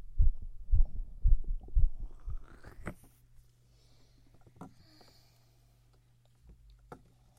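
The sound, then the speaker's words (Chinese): A young adult's fast, strong heartbeat, listened to during a medical check, thumps in a quick steady rhythm for a few seconds, then fades away, leaving near silence with a couple of faint clicks. “你的心跳一点问题都没有，我们可以来打针了。”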